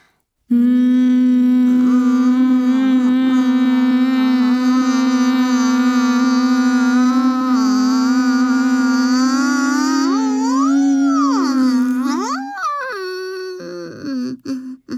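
A long, steady closed-mouth hum, done slowly as a breathing exercise while all the air is let out through the nose, held on one low pitch for about twelve seconds, then sliding up and down before fading out as the breath runs out. No talking.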